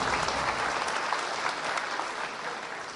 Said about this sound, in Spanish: Yo creo que hoy tenemos más parejas completas, los demás les damos su aplauso.